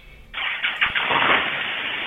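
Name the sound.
car engine starting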